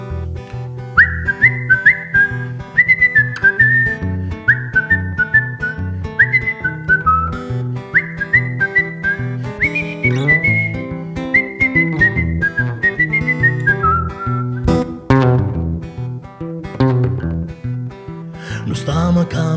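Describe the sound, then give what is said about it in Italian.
A clear, bright whistled melody opens a song, carrying the tune over steady instrumental backing phrase after phrase, before the whistling fades out and the music continues on its own. “E quindi ho detto, no, devo assolutamente fare questa canzone, che poi è diventata questa qua, che c'è un fischio, inizia col fischio.”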